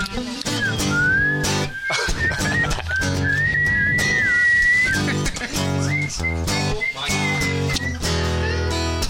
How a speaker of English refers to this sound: Can anybody whistle?